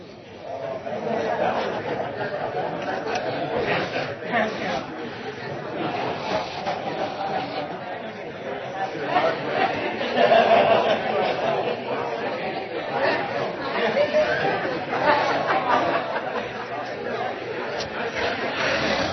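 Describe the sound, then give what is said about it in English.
An audience of people chatting with their neighbors, sharing things that bring them joy. Many overlapping conversations form a steady, loud murmur with occasional laughs rising above it, continuing without a break. “So just take a moment, turn to your neighbor, and just share something that brings you joy.”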